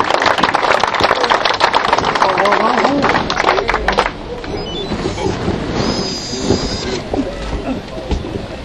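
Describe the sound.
At a British wrestling award presentation, a crowd applauds the Mayor of Rochester, Ted Baker, coming up to the podium, clapping loudly in a dense, steady burst for about four seconds, then the applause thins out and voices take over, with a faint high tone briefly ringing.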